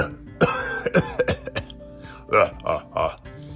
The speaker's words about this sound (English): Oh, the volcano smoke is making me cough a lot. This is terrible.